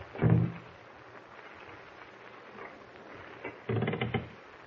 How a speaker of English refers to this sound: Someone at the door. He's trying to open it.